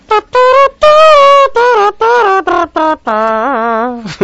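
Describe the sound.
A voice imitates a trumpet as part of an act imitating musical instruments, blowing a run of loud, buzzy, brassy notes in short bursts, then holding a long wavering tone that rises and falls near the end.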